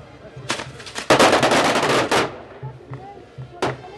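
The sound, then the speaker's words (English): Rapid, loud crackling bursts of firecrackers go off just feet from the crowd at a street parade in La Paz: a short pop, then a dense two-second string of sharp explosions, followed by a final single bang over faint background crowd noise. “Drooping eyes flutter open for the fireworks that blaze just feet from the overserved patrons of the parade.”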